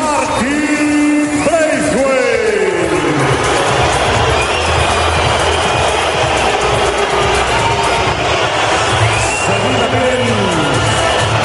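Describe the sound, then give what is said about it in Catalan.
The Camp Nou stadium crowd whistles in disapproval at Danish player Braithwaite: a loud, unbroken wall of shrill whistling and jeering, with sliding, falling whistle tones cutting through near the start and again toward the end. “Xiulada, per aquest motiu Umtiti no va ser presentat amb l'equip per evitar, com dèiem, aquesta escridassada de l'afició, tal i com va passar la temporada passada al Johan Cruyff.”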